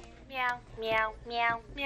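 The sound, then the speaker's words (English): A meowing toy piano, a cat toy, plays three bright, electronic-sounding meow notes in steady succession, each with a falling pitch, clear with no one talking. “That is a meowing piano.”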